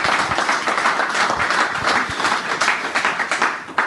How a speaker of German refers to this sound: Ja, vielleicht ein kleiner Applaus an der Stelle.